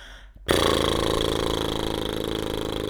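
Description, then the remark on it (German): After a brief quiet moment, a loud, steady lip trill starts abruptly and keeps going as air is blown through fluttering lips in a vocal exercise, a buzzy rumble that imitates a helicopter's rotor. “Ihr dürft die Luft durch die Lippen rauspusten, wie so ein Hubschrauber.”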